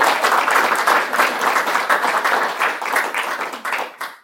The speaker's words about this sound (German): Wo ich schon am Dankesagen bin, wir bedanken uns bei der Evangelischen Kirchgemeinde für diesen schönen Raum und für die Bewirtung. Sehr gerne. Einen Applaus.